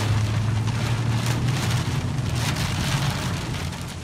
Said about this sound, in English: Take a walk across Nyando area in Kenya's Kisumu County in Western Kenya, and this is a common scene. Rain and driving hail.